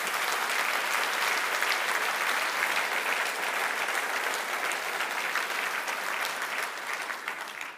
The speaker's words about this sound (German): einen kräftigen Applaus haben Sie ja jetzt erhalten.